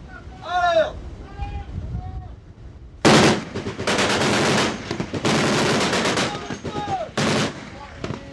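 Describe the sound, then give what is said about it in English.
Gunners on a light warship at sea fire machine guns at balloons dropped in the water: sustained bursts rattle loudly in several long volleys with brief gaps, after a quieter opening where a voice speaks over a low rumble and wind. “On the second day out, the captain puts his gunners through their paces, firing at balloons dropped in the water.”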